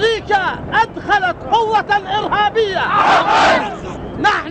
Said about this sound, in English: U.S. soldiers met with Fallujah's mayor and the imam of the town's main mosque, but after emerging from his meeting, the imam called on the troops to leave the city and led the faithful in a series of defiant chants.